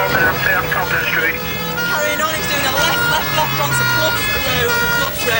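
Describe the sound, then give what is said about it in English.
Police sirens wail and waver continuously over dense, rumbling traffic, with engine noise and the occasional horn toot, as police chase a stolen car full of suspects through the thick traffic of narrow streets in a neighborhood in Great Britain; smoke fills the air, and a voice can be heard beneath the din. “Sirens and smoke fill the air of this quaint neighborhood.”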